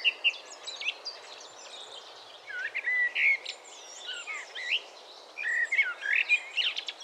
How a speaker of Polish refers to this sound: Dzisiaj witają nas kos.